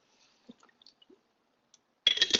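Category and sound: household object, drinking water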